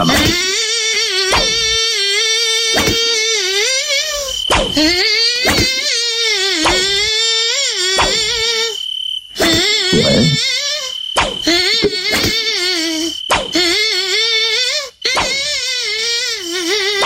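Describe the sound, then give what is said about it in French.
A song melody is played in a thin, whining mosquito-like buzz for listeners to guess the song. It runs as a steady stream of sliding, wavering notes with brief breaks, loud, with no talking. “Du coup, retour des moustiques, le moustique nostalgie a deux chansons. À vous de les découvrir.”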